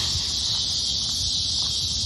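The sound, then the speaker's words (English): A loud, steady high-pitched buzz of cicadas drones continuously without a break, with a faint low rumble underneath and no voices. “Whew, can you hear that? That's the cicadas. They're very loud this time of year.”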